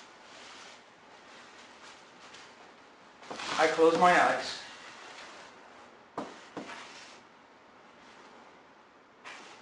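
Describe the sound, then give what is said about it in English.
Atlantic ocean waves boom and wash steadily on the shore at Cahill Point, swelling into a louder surge midway, while a man speaks calmly over the surf. “And I could hear the Atlantic waves booming on Cahill Point.”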